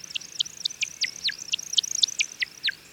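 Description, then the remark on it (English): A male American woodcock's display call: a rapid run of high, liquid chirps, each dropping in pitch, repeated about a dozen times in quick rhythm, clear with no voices. “Let's listen to the timberdoodle one more time.”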